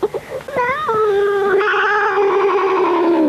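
A cat being held down and given an injection lets out a loud, drawn-out yowl, starting after a few brief rustles and swelling into a sustained, wavering wail that continues to the end.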